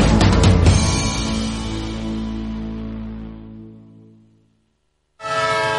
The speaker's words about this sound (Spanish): Un tren que se va. Otro tren que se le escapa a tu empresa.